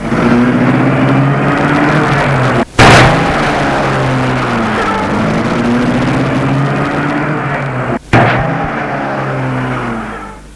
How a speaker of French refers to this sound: Et elle va à la fenêtre, l'ouvre, fait des grands signes et dit, au revoir, à bientôt, et la voiture démarre.